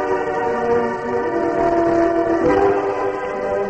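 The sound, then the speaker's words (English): A steam train's whistle sounds in one long, steady, multi-toned blast over a low rumbling engine, loud and unbroken for the whole few seconds, with no voices. “Hey, there's the engine.”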